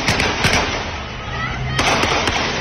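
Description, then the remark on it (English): Several sharp gunshots fired at a crowd of hundreds in Venezuela crack out at irregular intervals, a pair early and a quick cluster later, over a loud, dense wash of background noise with faint voices of people screaming as they run. “They're just shooting at innocent people, as you can do in Venezuela.”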